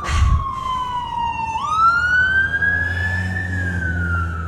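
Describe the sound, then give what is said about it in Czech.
A loud emergency vehicle siren wails, its pitch sliding down and then rising in a long sweep, with a low engine rumble underneath and no one speaking. “Zavolat nějakou sanitku.”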